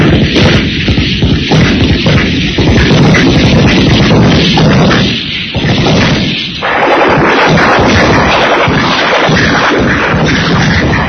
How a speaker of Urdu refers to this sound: میدان جنگ میں قیامت کا شروع تھا. ہر طرف آگ برس رہی تھی، گولے پھٹ رہے تھے، لیکن محمد حسین کو بس ایک ہی دھمکی کہ دشمن کو نقصان پہنچا کر شکست دی جائے.